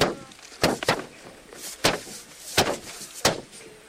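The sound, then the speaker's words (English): A marker strikes paper five times in sharp, dry taps at an uneven pace, two close together at first and then three more spaced apart, with a faint hiss between them and no voices. “The one I described, but for the sound, I was just hitting paper with a marker.”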